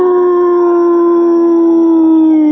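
A long, sustained wolf-like howl from a character called Wolf inside Cinema 6 holds a steady pitch that sags slightly at the end, loud, with no other sounds around it.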